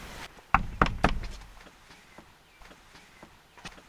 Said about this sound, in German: Vielleicht ist da jemand drin. Lass uns mal anklopfen.